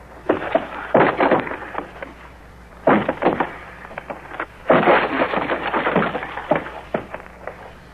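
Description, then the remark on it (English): A wooden door is forced open in three bursts of heavy, loud banging, cracking and splintering, with brief pauses between the efforts. “Here, take the gun. Cover me. Stand back. I'll force the door.”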